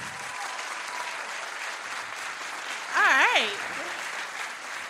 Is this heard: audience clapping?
yes